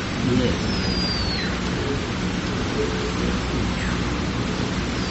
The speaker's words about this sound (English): It's just going to turn into a storm.